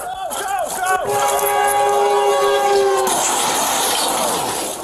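A train sounds its horn in a long, steady blare, then a loud rushing roar of cars passing on the tracks.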